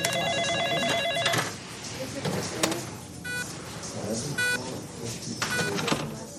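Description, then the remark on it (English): Electronic hospital monitors beep in short stacked tones while a phone rings repeatedly, all over a busy background of indistinct chatter and ward clatter at moderate volume. “Incessant beeping from monitors, phones ringing at all hours.”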